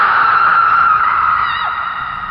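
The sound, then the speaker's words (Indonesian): A young woman's scream, loud and high-pitched, held as one long continuous shriek that wavers slightly near the end and tapers off, with no talking around it. “Mirip teriakan seorang perempuan, suara perempuan, kayak jeritan cewek muda gitulah.”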